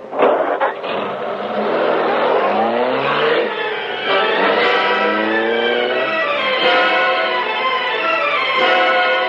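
A car engine revs hard and accelerates away as the car sets off to follow another car, its pitch climbing in repeated surges through the gears. Loud throughout, with no voices.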